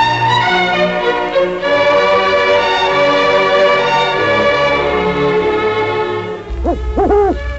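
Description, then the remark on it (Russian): An eagle owl gives a few short, rising-and-falling hoots near the end, loud, over a steady layer of sustained instrumental music that fills the whole clip. “вам понравилась сегодняшняя беседа с Филином? В народе издавна принято считать филинов и сов мудрыми птицами”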